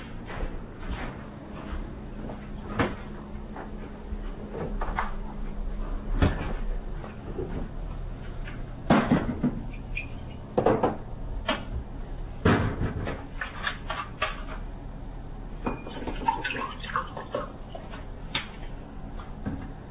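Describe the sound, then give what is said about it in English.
Cupboard doors open and shut with several sharp wooden knocks and clatters, while a tap runs in a steady low rush underneath as someone gets water, with no talking. “I'll get water.”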